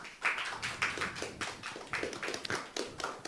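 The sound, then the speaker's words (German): An audience applauds, many hands clapping in a dense, steady patter that carries on for a few seconds at a moderate level, with no one talking over it, welcoming a speaker before a talk about Siemens telephones. “Bitte einen Applaus für Fabi.”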